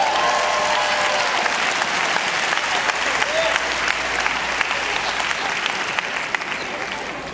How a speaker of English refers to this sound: Let's all clap our hands, boys and girls.